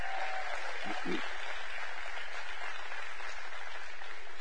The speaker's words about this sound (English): Church, would you give the visitors just one more round of applause, please?